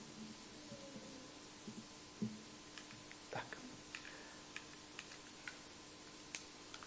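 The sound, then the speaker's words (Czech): A few sharp, faint clicks scattered irregularly from a computer mouse being clicked in the middle of the screen during a sermon, with a short spoken word and some quiet room noise in between. “prosím tě, klikni mi někam doprostřed na tu plochu.”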